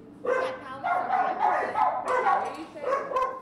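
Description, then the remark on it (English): A dog from an Indiana animal shelter, in a prison program where inmates train dogs in basic obedience, barks repeatedly in quick, uneven bursts, fairly loud, with a low background murmur running underneath. “Lace is a handler in the prison's Adopt program, which pairs dogs from an Indiana animal shelter with inmates”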